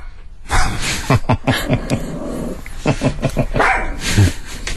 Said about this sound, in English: That's Ruben. Guys, this is 30 seconds of dogs barking, just letting you know. Ruben wasn't happy to the point where Myrtle actually fell off the bed.